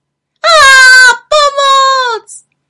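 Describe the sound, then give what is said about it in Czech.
A person voices a loud monster growl as a frightening monster emerges from the grass, a drawn-out moaning roar in two long bursts that slide downward in pitch, ending with a brief short grunt. “Najednou se rozlehlo hlasité mručení a z trávy se vynořilo děsivé strašidlo.”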